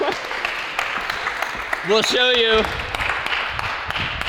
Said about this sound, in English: All right, a big round of applause.